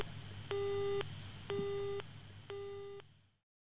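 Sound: phone call tone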